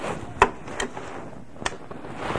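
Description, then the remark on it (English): A wooden door is rattled and tugged but stays shut, giving three or four sharp knocking clacks at uneven intervals over a faint background hiss, with no voices. “It doesn't open.”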